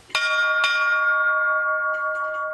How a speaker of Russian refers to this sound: Колокольный звон – это не мелодия, это все-таки больше ритмический рисунок, потому что никогда звонари на Руси не звонили не по нотам, попевки, а как я буду звонить, я никогда не знаю до того момента, как не поднимусь на колокольню.